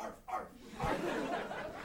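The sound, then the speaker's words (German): A dog barks a couple of times far off, the muffled, echoing woofs quiet and distant against a faint background hush. “In der Ferne, vielleicht sogar aus dem Nachbardorf, hörte man einen Hund bellen.”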